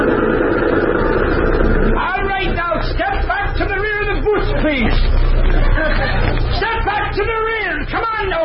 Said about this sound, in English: Wouldn't you know the bus would be crowded? Yeah, but we're the ones who are crowding it.